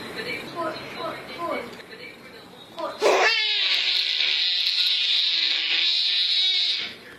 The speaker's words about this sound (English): Finally today, little baby, big scream.